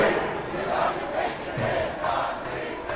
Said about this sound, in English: About 400 people yelled out against financial institutions, the G8, and NATO, and championed the environment and other causes. They had just left a big rally headed by the group National Nurses United.